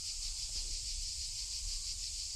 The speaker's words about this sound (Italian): C'è un bel rumore di cicale, speriamo che non sia troppo.